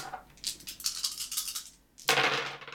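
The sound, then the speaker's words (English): Dice rattle in a quick series of clicking bursts, then a louder clatter as they tumble out and spill across a hard surface. No voices are heard. “And as we keep rolling our dice,”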